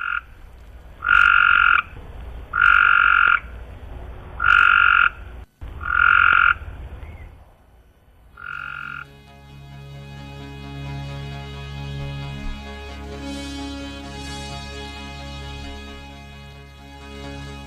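Frogs croak in a run of about six loud, evenly spaced, clear calls with no talking, before a sustained tonal backdrop takes over for the rest.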